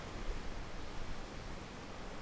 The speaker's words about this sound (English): fairly slight but persistent sea breeze is just made itself apparent, which is a nuisance. Well, it's keeping me cool.